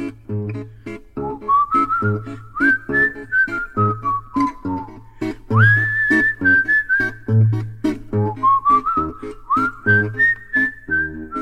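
A person whistles a wavering, sliding melody in clear sustained phrases over a steady rhythmic musical backing, prominent throughout, with no talking.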